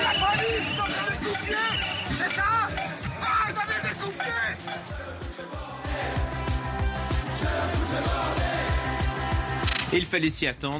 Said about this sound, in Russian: Чтобы заявить о себе и встретить президента в Эльзасе, толпа свистела, кричала и устроила кастрюльный концерт.